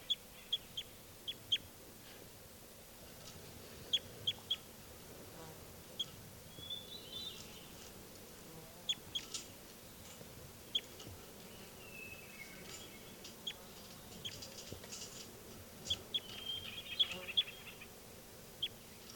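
birds calling outdoors

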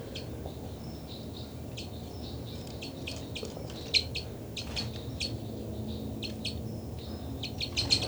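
bird flight calls

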